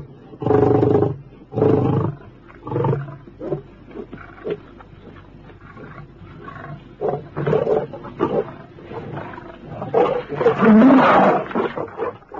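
lions roaring

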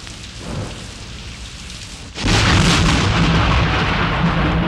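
loud thunder with rain

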